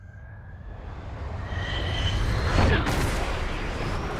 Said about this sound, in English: That's all you need to hear is the plane sounds. Plane stuff.